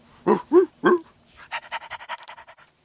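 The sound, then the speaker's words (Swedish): Three short, high whimpering yelps from young puppies at play, followed by a quick run of rhythmic panting breaths that gradually fade, with no talking. “Hundvalparna leker.”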